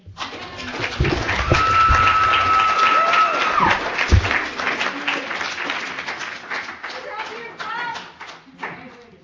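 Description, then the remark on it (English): An audience at a Narcotics Anonymous meeting claps steadily for a speaker for several seconds, a dense crackle of applause with a brief whistle or cheer rising early on, then gradually thinning out toward the end. “Let's give it another round of applause.”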